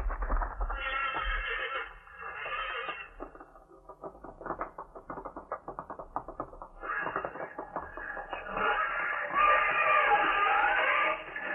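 Horses fighting: loud, harsh squealing neighs at the start and end, with a stretch of rapid scuffling and snorting bursts in between. One of the horses is Thunderhead. No one speaks.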